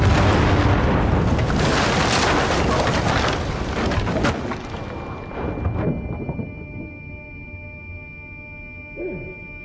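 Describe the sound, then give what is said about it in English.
A massive, roaring explosion fills the first several seconds with dense, rumbling noise, then slowly dies away into a lingering hum and scattered debris-like rattles. “She's experiencing the explosion.”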